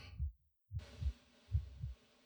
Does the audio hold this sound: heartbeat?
yes